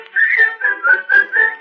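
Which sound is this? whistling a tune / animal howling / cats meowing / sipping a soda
whistling a tune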